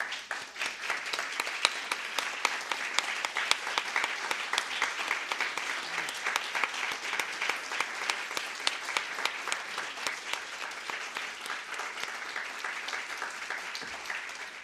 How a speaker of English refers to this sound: At this time, I would like to ask all of our young writers, everyone in the room who submitted an entry, to please stand up for a moment so we can honor you and applaud you.